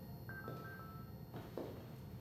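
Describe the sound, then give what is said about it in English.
A woman's mobile phone gives two quick, thin electronic beeps at a steady mid-high pitch, fairly soft over a constant background hum, followed by a few faint clunks. “Her phone beeps.”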